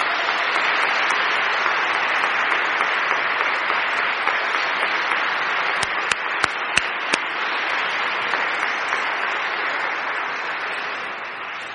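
Steady audience applause for the confirmation candidates fills the whole stretch, a dense wash of many hands clapping at constant loudness, with a few sharper individual claps popping out near the middle.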